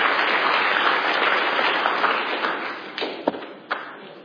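A crowd applauds steadily to praise God for an answered prayer, a dense wash of many hands clapping that thins out toward the end, leaving a few louder individual claps.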